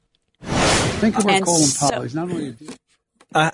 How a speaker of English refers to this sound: I said, let's pause for 1 second. And I wanted to hear that whoosh, and then I wanted to go into this next story.